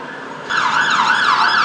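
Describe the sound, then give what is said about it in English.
Emergency vehicle sirens wail loudly in the Tower Bridge area of South London as emergency services respond to lightning strikes, a rising and falling high-pitched tone that starts abruptly after a brief moment of background hum and continues steadily with no talking. “As you can probably hear, emergency services now are starting to respond to the effects of the lightning just around South London in the Tower Bridge area.”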